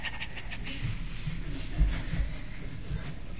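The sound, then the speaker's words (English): A person mimics an eager, happy dog panting: a quick, steady run of breathy huffs, moderately loud, with no other voices or sounds around it. “"Good dog, good dog, good dog," and that dog's going to go like this.”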